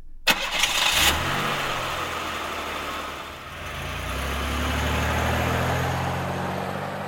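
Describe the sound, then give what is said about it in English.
A car engine cranks briefly with a whirring starter, then catches and settles into a steady, low rumbling idle that swells slightly in loudness. No one speaks. “We packed the car. We drove away.”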